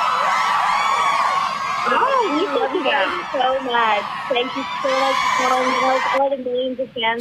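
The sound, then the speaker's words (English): A loud, continuous wall of high-pitched screaming and whooping from a big crowd of fans, with voices shouting over the din; it cuts off abruptly near the end. “They're screaming for you right now.”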